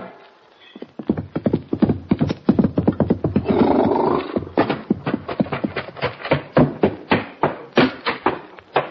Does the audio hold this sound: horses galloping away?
yes